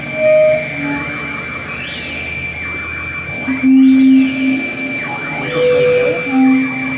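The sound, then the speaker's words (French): A canvas-covered truck rolls past, its engine rumbling steadily while whining tones rise and fall several times over a constant background hum. No one speaks. “On entend ici un camion bâché.”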